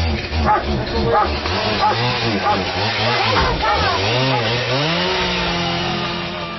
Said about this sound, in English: And the RCMP used an axe and a chainsaw to do it. So it's, you know, very dramatic and quite disturbing, really.